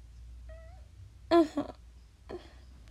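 A cat meows three times: a soft, thin mew, then a louder, strained meow, and a final shorter cry against a quiet background.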